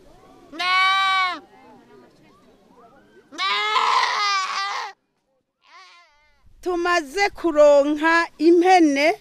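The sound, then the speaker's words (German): About two dozen goats, tethered in the grass before being vaccinated and distributed, bleat loudly: first two separate wavering cries with pauses between, then a rapid cluster of overlapping bleats from several animals toward the end. “Noch stehen die etwa 2 Dutzend Ziegen, die heute verteilt werden, angebunden im Gras.”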